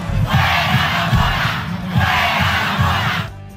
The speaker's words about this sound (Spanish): Y allí empezó a corear la gente. La gente no, primero él. Mira. Bueno, no sé si fue el primero él, pero diciendo, increpando a la presidenta de Venezuela, a la que llamaban Mona. ¡Fuera la Mona! ¡Fuera la Mona!